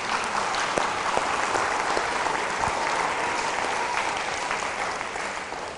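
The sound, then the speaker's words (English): A church audience claps steadily in a dense, sustained wash of applause lasting several seconds, with individual hand claps popping out and no voices rising above it, applauding God for about 2,550 volunteer hours given over three weeks by 51 people. “I think you should applaud God for that, because that's God's favor.”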